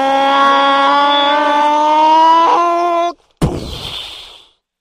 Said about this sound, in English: Fire the chainsaw cannon!